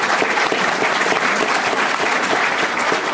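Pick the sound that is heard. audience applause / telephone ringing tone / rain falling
audience applause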